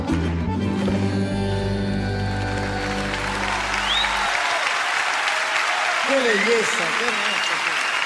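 Steady, dense audience applause begins over the final sustained musical chord of a song with bandoneón, which fades out after about four seconds, leaving loud clapping alone with a few brief vocal sounds rising from the crowd.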